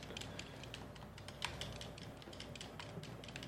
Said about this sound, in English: And I noticed already, we saw the foot soldiers like just typing away on keyboards. There's a nice little touches like that where the foot soldiers, they're just trying to chill and hang out and work, and we gotta rain on their parade.